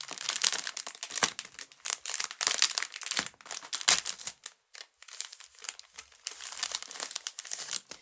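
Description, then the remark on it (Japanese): Continuous crinkling and rustling of adhesive tape and packaging as gauze is taken out and unwrapped by hand on a bed in a bedroom, with sharp crackly bursts and brief pauses. No one speaks. “ちょっとうるさいかもしれないです、テープが、ごめんなさい。”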